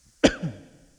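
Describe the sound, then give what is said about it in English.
A single abrupt cough or throat clearing bursts out sharply, then trails off in a short, rough voiced rumble before fading into quiet. No one speaks. “I'm trying not to cough in this.”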